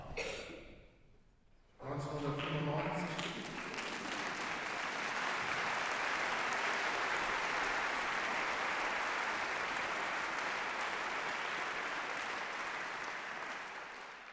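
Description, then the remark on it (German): Sustained audience applause for an orchestra of about 70 musicians, mostly students of the Albert-Ludwigs-Universität: a dense, steady wash of clapping that swells in after a brief moment of quieter sound and stays loud for over ten seconds before tapering slightly. “Nein, Publikum hat dieses Orchester verdient, Publikum und Beifall.”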